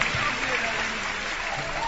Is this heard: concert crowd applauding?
yes